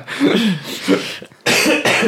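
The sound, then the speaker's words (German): A loud cough mixed with laughter: breathy laughing bursts followed by two harsh, forceful coughs in quick succession, no speech. “Ich hab gerade einmal gehustet vor Lachen.”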